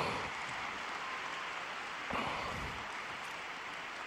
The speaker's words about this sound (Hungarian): Ezzel a tapssal köszönjük meg a 6. pálteremben jelenlevő zarándokok Ferenc pápának a mai szavait, mai katekézisét